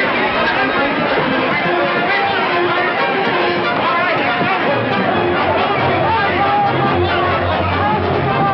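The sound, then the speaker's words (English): A dense, loud crowd at a cannery dock clamors continuously, many voices overlapping into an agitated din with jostling movement and raised shouts throughout, unbroken from start to finish, as farmers brandishing sticks and bats rush through the mob and swing at looters. “Brandishing sticks and bats, they rush through the mob to the dock.”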